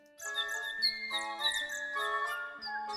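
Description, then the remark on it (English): A bird sings continuously in bright, high-pitched chirps and warbles over a sustained ringing tone, steady in loudness for the whole stretch, with no voices. “What's that noise? It's a bird.”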